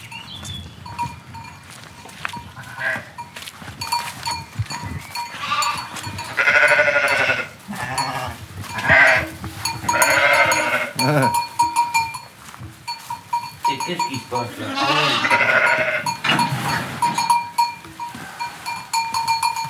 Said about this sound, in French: Et tu me dis, on va voir les brebis qui ont les agneaux. Eh ben, elles viennent de faire les agneaux.